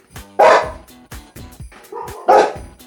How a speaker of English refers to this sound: There's another dog barking. I know. I can't get this one to shut up because the other one won't shut up.